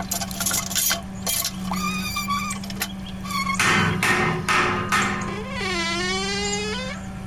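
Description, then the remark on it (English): A very heavy solid oak door wrapped in iron being pried loose: sharp knocks and scraping bursts, then long high-pitched metallic creaks and groans that bend and waver in pitch, over a steady low hum. “help me get this door off.”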